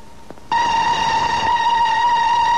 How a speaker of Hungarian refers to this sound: Már jön is! Tényleg valami vonat! Végre!